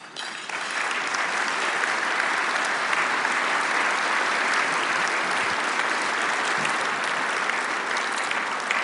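A crowd breaks into steady applause for the local chapter leaders, who are standing, a dense, even wash of clapping that holds at a constant loudness for several seconds without anyone speaking over it.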